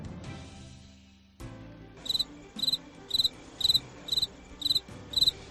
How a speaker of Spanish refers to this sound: ¿Te has comido alguna vez un grillo? Yo sí. Sí, sí, has oído bien. Un grillo como este.